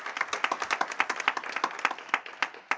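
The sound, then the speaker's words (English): An audience applauds the panelists at the close of an event with steady, overlapping claps, a bright, dense patter of many hands held at an even loudness throughout, with no voices heard. “Please join me in an applause for them.”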